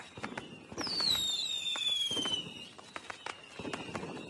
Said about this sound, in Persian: سر و صدای ترقه و آتش بازی کوچه رو برداشته بود.